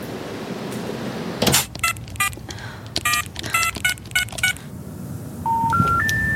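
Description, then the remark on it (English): Someone dials a telephone: a rapid, uneven run of about a dozen electronic telephone keypad tones, clear over a low background hum, followed by three rising beeps. “I'll phone them from the office.”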